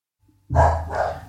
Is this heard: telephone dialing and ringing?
no